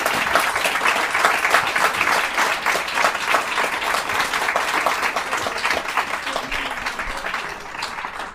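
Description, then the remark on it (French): Sustained morning audience applause welcoming 2009 Médicis laureate Dany Laferrière at the fourth edition of Haïti en folie, many hands clapping in a dense, steady roar for about eight seconds, fairly loud and even throughout with no voices rising above it. “Je vous demande de l'applaudir très chaudement ce matin.”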